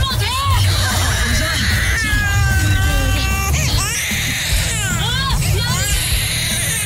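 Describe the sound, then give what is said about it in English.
A loud, crowded din of children's voices fills the scene, with overlapping high-pitched shrieks and wails rising and falling continuously over a dense background babble. “Screaming children.”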